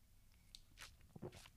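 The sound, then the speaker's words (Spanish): A quick, quiet sip of coffee: a soft slurp followed by a faint swallow and small mouth noises, with no talking. “Eso sí, dejadme un momento que eche un traguito de café.”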